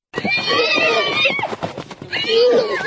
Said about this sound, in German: Noch tollen und wiehern sie auf einer saftigen Wiese in Dolny Dobšinov, unweit von Prag. Der Hengst Matthias und die 3 Stuten Lima, Cordula und Kasovia, die zwischen 3 und 5 Jahre alt sind.